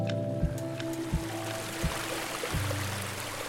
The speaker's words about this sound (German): Auf dem Rückweg durch die Wiesen plätschert neben uns ein Bächlein.